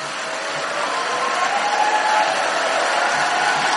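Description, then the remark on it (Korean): Sustained applause from an audience at a church gathering, welcoming the pastor as he comes out to preach, a dense, steady wash of clapping that stays loud and even for the whole stretch, with no voices standing out above it. “목사님 나올 때 큰 박수 부탁드리겠습니다.”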